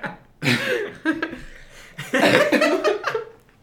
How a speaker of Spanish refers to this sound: Tengo demasiada tos.